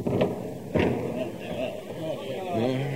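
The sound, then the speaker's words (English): Heavy doors are opened to let Jesus of Nazareth in, swinging open with two dull, booming thuds early on, followed by a low rumbling, shuffling noise and faint indistinct voices in the background. “Open the doors.”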